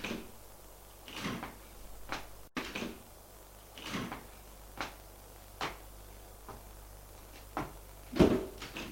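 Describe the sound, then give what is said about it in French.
A woman opens bedroom doors one after another along a dark corridor: a string of sharp latch clicks and wooden knocks at irregular intervals over a low steady hum, with no voices. “Ouvre les portes du couloir.”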